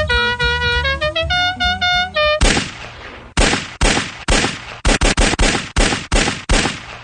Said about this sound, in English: So we don't have to hear that horn anymore. Oh, is that what we killed? Yeah. Oh, okay. Just the car with the horn.